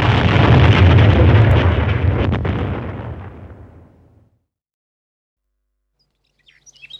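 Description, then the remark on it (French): A loud, deep explosion of a capsule self-destructing erupts at once and rumbles on, decaying over about four seconds into silence, followed by faint bird chirps. “Après l'explosion”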